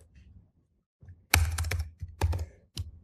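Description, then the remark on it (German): Keystrokes on a computer keyboard as someone enters 400 Hertz as the passband in a filter design tool: a few soft taps, then bursts of quick, clattering key presses in uneven clusters, with brief pauses between them and no voices. “Wenn ich tippen könnte, würde da auch 400 Hertz stehen.”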